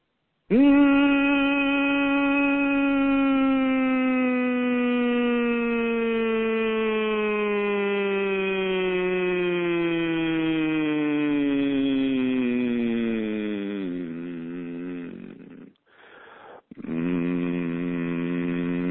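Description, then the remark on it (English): A single sustained vocal hum starts from a high sound and slides slowly and steadily downward in pitch for about fifteen seconds, breaks off briefly, then resumes on a lower steady note as the hummer finds their note, in the evening. Clear and fairly loud. “And so by using that hum from a high, all I'm doing is imagining a white light in the center of my forehead or in the top of my head, starting off with that really,”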